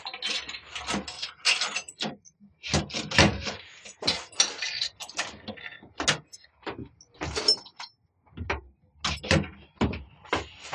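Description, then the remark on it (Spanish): Two keys rattle and click in the locks of a wooden chest of drawers before it scrapes open, an irregular series of sharp metallic clicks and short sliding scrapes with no voices. “toma el candelabro y camina hasta una cómoda, abriéndola con dos llaves.”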